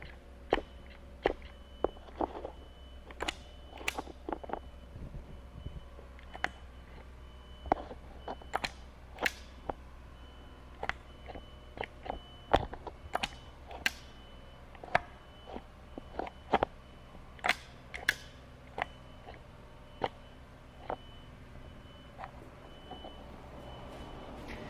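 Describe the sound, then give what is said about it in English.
Contact mic rustling on a motorcycle as it is shifted through its gears: a string of sharp, irregular clicks, taps and scrapes, some fairly loud, over a low, steady mechanical hum, with no talking. “I mean, probably the rustling of the contact mic is the most notable thing, but...”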